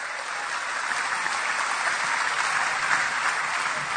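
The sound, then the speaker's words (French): An audience claps in praise of Jesus for several seconds, a dense, even wash of many hands with no clear individual beats and no one talking over it. “Give a clap for our Applaudissez superstar.”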